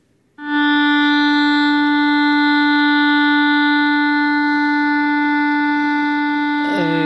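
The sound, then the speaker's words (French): A clarinet holds one long, steady mid-pitched note for about six seconds, loud and even, then shifts to a new note just before the end. No one speaks. “Et ben, c'est la clarinette.”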